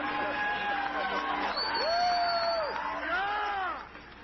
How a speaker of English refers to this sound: You hear them cheering? You hear the excitement, the joy, the laughter in their voices?